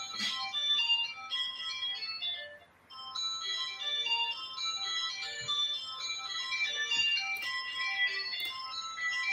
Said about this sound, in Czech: Vypínal jsem telefony před podcastem, vypnul jsem dva a třetí mi tady zvonil.